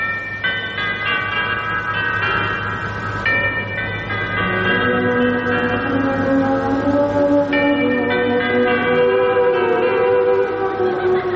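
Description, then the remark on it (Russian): Clock tower chimes ring out at 6 p.m. in a layered, resonant peal, overlapping tones sustaining and blending continuously with no talking, loud and full. “Перезвон курантов в 6 часов вечера после войны.”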